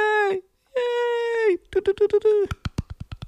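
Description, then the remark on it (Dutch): A radio presenter on Radio Texel imitates a cheering live crowd with long, strained wails and a rapid series of choppy yelps, ending in sharp clicks; it sounds more like barking seals than an audience. “Mijn nabootsing van het geluid klonk meer alsof er 3 zeehonden in het publiek zaten.”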